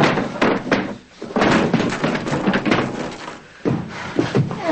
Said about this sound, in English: yanking out the dresser drawers, dumping them out and throwing them onto the floor.